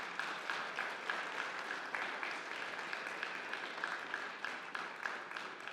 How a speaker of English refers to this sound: Let's give them a round of applause to show them our support.